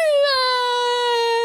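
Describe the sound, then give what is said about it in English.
A voice imitates a boy crying under a bed with one drawn-out, high-pitched wail that sags slightly in pitch. It is steady, with nothing else heard. “And the boy jumped under the bed and started to cry.”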